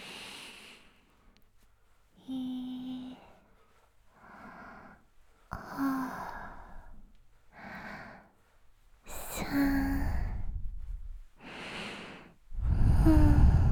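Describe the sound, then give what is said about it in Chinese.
A series of slow, deep breaths drawn in and let out, about eight in a row, some with a soft voiced sigh, fairly loud, with no talking. “紧张的话要记得深呼吸哦。”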